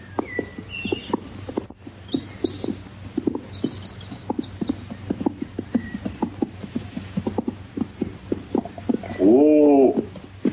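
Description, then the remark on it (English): Hooves of a horse and two donkeys, each carrying a rider, clop steadily along a wilderness trail in overlapping, uneven rhythms, with faint bird chirps overhead and a short tonal animal call near the end. “The thin man who leads the way rides a donkey, as does his shorter companion, while Ginevra rides a horse between them.”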